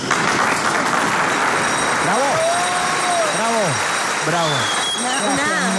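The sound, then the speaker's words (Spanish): Loud, steady applause from an audience welcoming a performer who has just been introduced fills the whole stretch, with several rising and falling whoops and cheers breaking through over the clapping midway. “Desde las 3 de la mañana despierto ese ánimo con el que aplaude ese público.”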